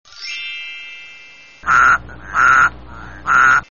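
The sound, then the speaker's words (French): A bright, shimmering magical chime rings out and slowly fades as a spell transforms someone into a toad, then the toad gives three loud croaks in an even rhythm, with no talking. “en crapaud. Bonne chose de faite.”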